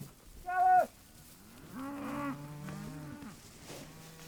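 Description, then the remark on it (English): Cattle mooing on a 1,400-acre ranch with 200 head of cattle: a short, loud bellow, then several longer, lower, drawn-out moos overlapping, and a faint final call. No one speaks. “Together they run 200 head of cattle on a 1,400-acre ranch.”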